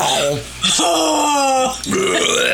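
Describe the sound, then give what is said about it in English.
A loud, drawn-out burp after drinking coffee rumbles for about a second, prominent, framed by brief voiced noises just before and after it. “No burp. No burp.”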